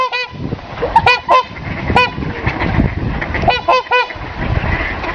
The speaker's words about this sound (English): Trumpeter swans weren't seen in Iowa for nearly 100 years when the DNR hatched a plan to reintroduce them in 1993. Still not a very common sight, trumpeter swans have made an impressive and noisy comeback in the state.